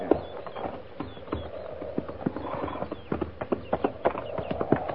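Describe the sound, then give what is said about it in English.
Hooves clip-clop steadily on hard ground, several horses walking at an uneven, overlapping rhythm, with faint rustling and background movement underneath. “Not after we water the horses.”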